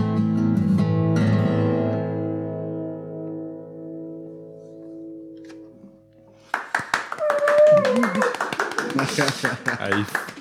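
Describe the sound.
A held musical chord rings out and slowly fades at the end of a concert, then the audience bursts into dense, steady applause, with whoops and cheering voices rising over the clapping.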